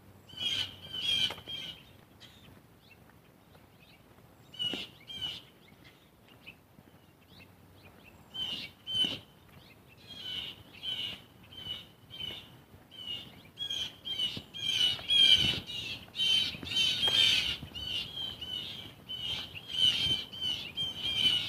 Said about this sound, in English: Blue jays are having a fit over something.